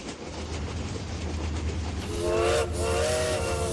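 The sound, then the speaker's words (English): A train rumbles steadily, then a long, mournful whistle sounds about halfway through, briefly breaks, and sounds again over the rolling rail noise. “The call of the lonesome train whistle can be a cruel mistress.”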